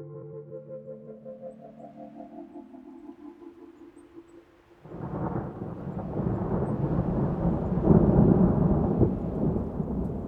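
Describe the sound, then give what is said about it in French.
Low rolling thunder rumbles through a storm forming over arid mesa country, then midway a dense, loud roar of rain and thunder swells in and holds steady to the end, with no voices. “Et le moment où on était, il y avait des orages qui commençaient à se former.”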